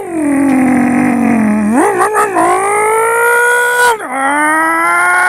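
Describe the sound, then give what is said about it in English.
A production team member's voice imitates a muscle car engine with a loud, steady, buzzing hum that swoops upward twice like revving, then settles into a sustained drone. No other talk is heard. “to give us their best muscle car impression, and then people voted.”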